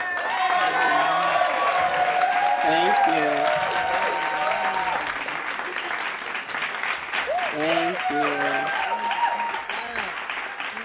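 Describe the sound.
A church audience gives a hand clap praise to welcome the church's First Lady at an evening service. Sustained, dense clapping with scattered whoops and cheers, while a woman's voice speaks briefly over the applause.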